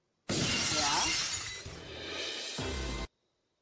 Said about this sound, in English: The button's right next to it. I mean, it broke. The glass That's broke.